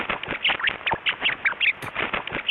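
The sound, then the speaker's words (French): Rapid, tightly packed bursts of short, high chirps from a tickled rat, expressing joy, loud, chattering almost without pause, with one brief sharper squeak near the end. “Des études scientifiques ont prouvé que les rats émettaient des sons courts et aigus pour exprimer leur joie, induite par un jeu ou une récompense.”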